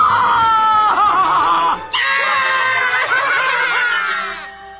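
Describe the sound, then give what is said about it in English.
A person screams loudly and continuously for about five seconds, the shrill, strained voice breaking briefly near the middle before carrying on and fading slightly at the end. “If you don't stop it right now, I shall scream!”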